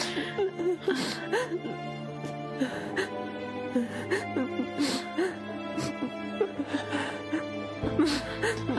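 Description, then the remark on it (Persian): A girl cries and whimpers in a hospital with her mother beside her: shaky, breathy sobs broken by sharp gasping inhales, the irregular bursts continuing throughout over a low steady background hum. “چرا گریه میکنی؟”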